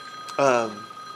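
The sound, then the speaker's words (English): The speaker's phone rings once in a short, bright electronic burst that fades quickly, over a faint steady hum. “It's my phone.”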